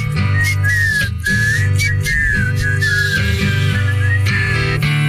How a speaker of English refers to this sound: He wanted us to whistle. That's hard.